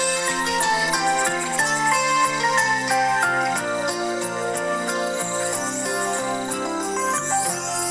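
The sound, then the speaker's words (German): A bell, the treehouse (Baumhaus) bell, chimes its melody: a continuous run of bright, ringing notes that step up and down in a steady rhythm, with overlapping tones sustaining at an even volume and no voices. “Diese Melodie, ich spiele sie nochmal ab.”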